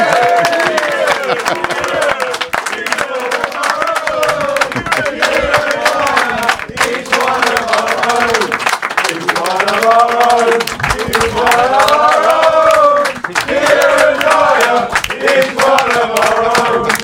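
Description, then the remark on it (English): A loud, sustained round of audience applause on Life's a Pitch TV welcoming Kieran Dyer, dense clapping mixed with cheering and many voices rising and falling together, continuing steadily for the whole stretch without a break. “Give a big, massive Life's a Pitch TV round of applause.”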